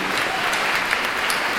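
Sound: audience clapping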